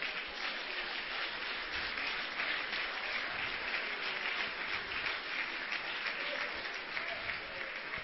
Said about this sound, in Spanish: Le palmas al Rey de Reyes.